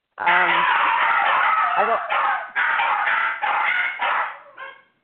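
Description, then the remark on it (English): A dog barks loudly and harshly in a series of long, overlapping bursts with brief gaps between them, ending in a shorter, softer bark. “It didn't say bark.”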